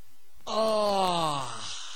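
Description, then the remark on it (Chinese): A male narrator imitates a character's long, drawn-out yawn and stretch, a single groaning exhale that starts strong and slowly falls in pitch before fading out. “就看徐宁把那书本往桌子上一放，打了个哈欠，伸了个懒腰。”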